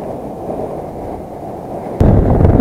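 Rough ocean surf churns with a low, steady roar, then a heavier wave crashes in louder near the end. No voices, just the rumbling water.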